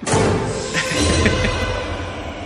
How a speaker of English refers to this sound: Whoa, there's like a whoosh air noise with that one.